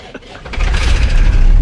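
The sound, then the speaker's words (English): A boat's motor turns over with a brief sputter, then catches and settles into a steady, rumbling low idle that grows fuller and holds. “Whoa, listen to that purr.”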